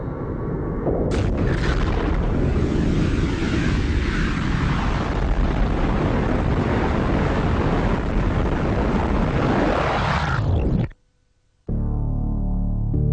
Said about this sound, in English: The universe came into being with the explosion of this point. Scientists call this explosion the Big Bang.